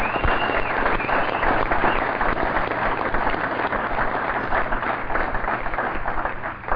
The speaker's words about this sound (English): And that deserves a hell of an applause.